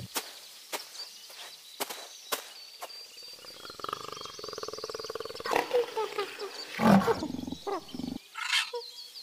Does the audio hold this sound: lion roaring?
yes